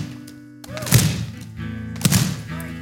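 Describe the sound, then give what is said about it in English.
Two dull, heavy thumps about a second apart, of many hands slapping hardcover Bibles in unison, over a low steady hum. “Let's try that again. Thud. Thud. Thud.”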